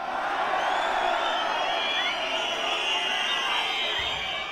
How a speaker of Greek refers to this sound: Υπερβολές, παιδιά, όχι έτσι. Κάτι πιο ήρεμο, ένα πιο χαλαρό χειροκρότημα παρακαλώ πάρα πολύ. Έτσι, μπράβο. Αυτό είναι σεμνό και ταπεινό.